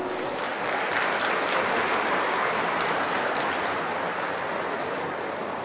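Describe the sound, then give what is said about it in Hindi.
A large crowd applauds steadily, a dense, continuous wash of clapping that holds at an even, loud level throughout with no voices over it. “आप इस कार्यक्रम के लिए ताली बजाएंगे।”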